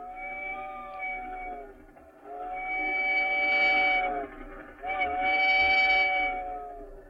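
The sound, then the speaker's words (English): A train whistle on the Pine Valley Limited blows three long, wailing blasts, the first softer and the next two louder and sustained, with a steady chordlike tone and no talking. “Sounds like we must have caught the owl train.”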